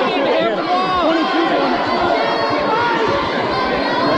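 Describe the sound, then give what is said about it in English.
Basketball arena crowd noise: a steady, loud roar of many overlapping voices chattering and calling out, with no single speaker standing out, sustained evenly throughout. “Don't you love our crowd, Mike?”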